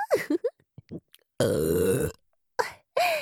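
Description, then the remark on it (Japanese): A single loud, drawn-out burp, rumbling for under a second, set between short breathy vocal sounds and brief murmurs before and after. “私はリスナーの皆さんがたくさんゲップを聞いてオナニーできるように最初から全力でゲップするだけです。”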